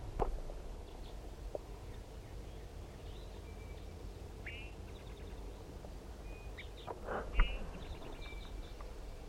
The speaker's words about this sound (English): That was bird K6. K6 after release.